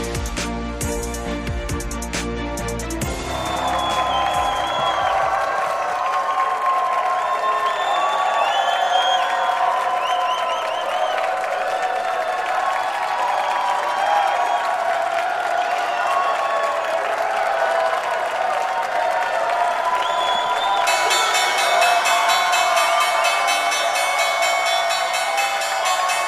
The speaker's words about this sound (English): That is the opening bell for the New York Stock Exchange, and I think they're applauding our next guest